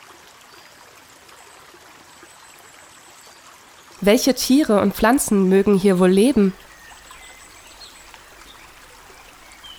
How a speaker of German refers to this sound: Kannst du den Riedbach rauschen hören?